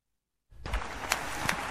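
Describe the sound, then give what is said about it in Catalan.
After a short silence, a crowd bursts into steady, dense applause for the families of political prisoners jailed in Madrid as they climb the stairs to the stage, with a few sharper claps standing out above the continuous wash of clapping. “Aplaudiments mentre començaran a pujar, encara no els veiem, a pujar per les escales cap a l'escenari ara sí, els familiars dels consellers i les conselleres cessats segons el govern espanyol que estan a presons de Madrid”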